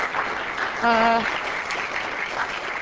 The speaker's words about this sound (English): Okay, perhaps you should save the clapping for after the talk. You may not like it.